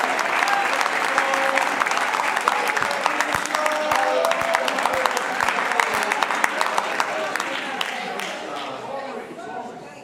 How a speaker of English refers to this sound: Oh, I wonder if you can clap your hands. But don't just clap your hands. Lift your voice and say, "Thank you, Jesus, for saving my soul."